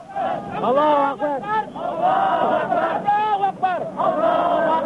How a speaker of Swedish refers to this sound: Allahu Akbar, Gud är stor, skriker demonstranterna utanför parlamentsbyggnaden i Jakarta.